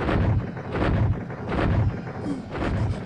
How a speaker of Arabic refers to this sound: أبي، ما هذا الشيء الذي يضرم النيران وله دوي كالرعد؟ إنه المدفع العجيب